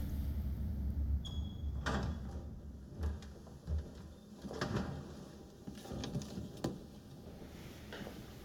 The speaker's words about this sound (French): Elle ouvre enfin la porte et va dans le salon.